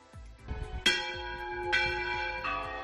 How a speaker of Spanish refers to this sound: Escuchan el sonido de las campanas de la catedral. 4 de ellas han vuelto a ser colocadas hoy después de restaurarse